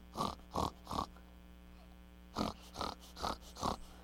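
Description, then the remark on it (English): A pig oinks seven times in two quick bursts, three grunts, a short pause, then four more, each loud with a nasal, squealing edge over faint background hum. “It's a pig.”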